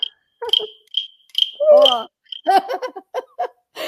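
A toad croaks in a rapid series of short, high, chirping calls, repeated several times over a few seconds, with brief voiced, laugh-like bursts mixed in.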